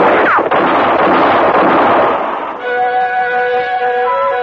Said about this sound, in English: For about 5 seconds, the moonlit clearing thundered to the sound of gunfire. And then it was all over.